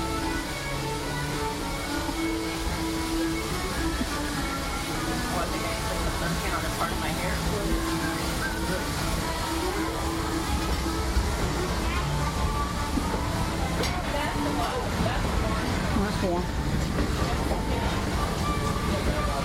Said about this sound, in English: Some who say that this steam train is a little old-fashioned, but for me, it's the only way to travel.